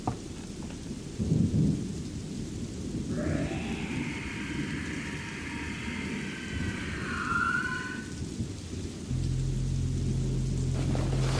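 A thunderstorm with heavy rain: a steady, dense hiss of downpour over deep rolling rumbles of thunder, with a wavering, whining tone rising and falling through the middle. No one speaks.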